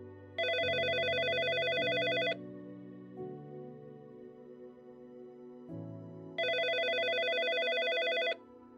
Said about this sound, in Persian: هر دوی ما میدونستیم بالاخره با من تماس میگیرن. و اون موقع بود که تلفنم زنگ خورد.